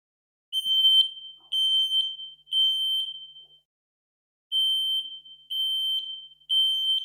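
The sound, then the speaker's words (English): A shrill, piercing fire alarm sounds in a three-beep pattern: three long, loud tones, a short pause, then three more, each blast harsh and high-pitched with no voices present. “What'd you do with a fire alarm blaring in your ear in the middle of the night?”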